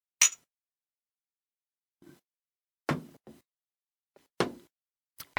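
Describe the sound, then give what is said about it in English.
Cups filled for a round of shots clink together in a toast, several sharp knocks spaced out over a few seconds with quiet gaps between them. No one speaks. “Fill your cups up. Here we go. Cheers, bitches.”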